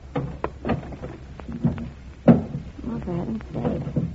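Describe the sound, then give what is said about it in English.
A heavy wooden thunk and scrape as a bar is set across a door, with a sharp knock-like hit standing out amid shuffling handling noises while people talk underneath. “Putting a bar across the door?”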